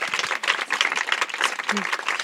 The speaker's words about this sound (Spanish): Un aplauso, por favor.